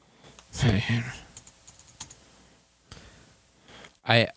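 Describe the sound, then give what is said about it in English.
Scattered clacks of typing on a computer keyboard, a short run of light, irregular key clicks, with brief bursts of a voice at the start and end. “Well, how am I typing 311?”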